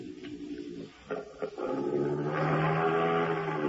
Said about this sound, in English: Suddenly, and without warning, they heard what seemed to resemble a low, throaty growl.